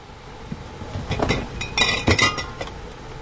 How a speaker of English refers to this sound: pulls glass jar.